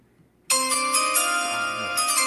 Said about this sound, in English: Turns right around as soon as the draft bell rings.